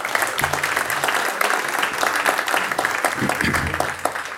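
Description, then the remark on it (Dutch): A burst of applause from a group fills the whole stretch, dense and steady clapping at moderate loudness, with faint murmurs of voices mixed underneath. “Die hebben wel een applaus verdiend, vinden wij.”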